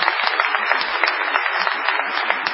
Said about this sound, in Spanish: Nuevo Teatro Morón, señores. Muy bueno. Qué un nuevo lugar, sí, se puede aplaudir, porque es para destacar, ¿eh?